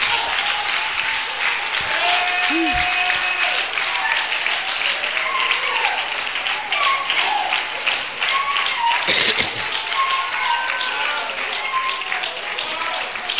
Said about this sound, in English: Clap your hands, your scarred hands, your callous hands.